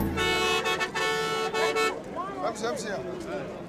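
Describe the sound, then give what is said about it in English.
A bus horn blares in a long, loud honk with a couple of brief breaks, then cuts off as voices chatter over a steady engine rumble on a full bus setting out on a 200-mile journey in the desert. “I'm very glad we've got a place on this bus.”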